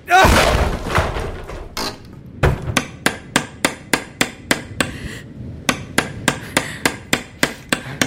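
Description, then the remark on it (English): Wooden chairs crack and splinter in a loud, crunching burst as they are broken, then after a brief pause a hammer strikes the wood in a fast, steady run of sharp blows that continues to the end. “I have these wooden chairs. They'll do. Mind if I break them?”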